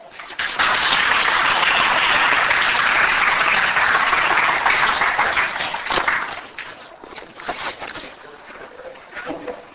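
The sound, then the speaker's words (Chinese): Sustained audience applause, a dense wash of many hands clapping that holds steady for several seconds, then thins out into scattered claps and fades, welcoming Pastor Chen of a theological seminary to speak on sin and salvation. “那我们说热烈的掌声，我们欢迎陈牧师来跟我们分享罪与救恩。”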